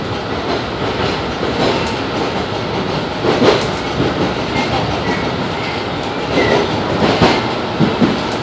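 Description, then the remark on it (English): A train car bound for North Station, with Cleveland Circle as the next stop, rolls steadily along the rails with a constant rumbling roar, punctuated by a few louder clacks and brief metallic screeches from the wheels. No one speaks. “The destination of this train is North Station.”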